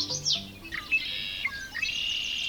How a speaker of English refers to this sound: In spring, around low marshy spots in open country, listen for this sound coming from somewhere up in the sky. It's the winnowing sound of the Wilson's snipe. Look up, and you may see the bird itself.